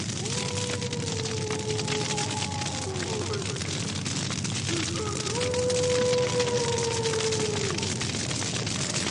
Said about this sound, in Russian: А огонь шумит.